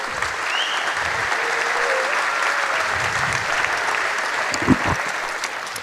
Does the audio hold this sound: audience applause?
yes